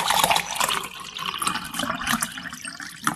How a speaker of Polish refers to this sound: Żebyśmy w przyszłości mieli ten sam komfort, żeby nasze dzieci, nasze wnuki miały ten sam komfort odkręcenia kranu i zobaczenia strumienia wody.